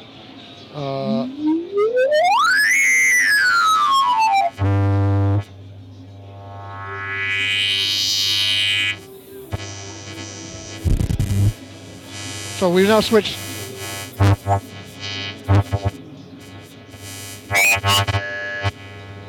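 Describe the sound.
Electronic audio filters switching between settings, each change fading smoothly in and out with about a 100 millisecond time constant rather than clicking: rising tonal sweeps, buzzy bursts and bright hiss over a steady low hum, with a brief voice speaking.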